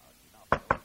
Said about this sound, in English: There was a rap at the door.